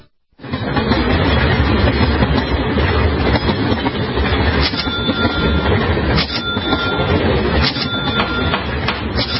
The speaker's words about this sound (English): CSX trains are the most cost-efficient way to move goods to market.